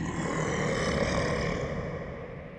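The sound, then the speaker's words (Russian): A bear roars, a deep, rough, sustained bellow that is loud. It holds steady for nearly three seconds before easing off slightly, with no voices present. “«Сломаю я тебя, мужик!» — ревет.”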